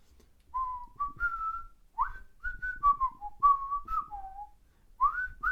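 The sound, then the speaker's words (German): A person whistles a cartoon theme tune, a bouncy melody of short and sustained notes in several phrases with brief pauses, clear with no talking. “Ich würde es jetzt einfach mal pfeifen und gucken, ob du das errätst.”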